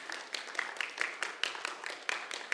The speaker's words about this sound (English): Thank you, honey. Good job. You did great just standing there. That was awesome. Look, they're even clapping for you. That's wow.